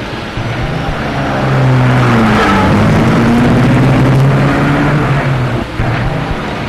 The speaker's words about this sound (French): la voiture est partie.